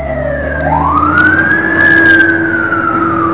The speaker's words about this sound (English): Sorry guys, we have a fire engine in the background. Take a little pause.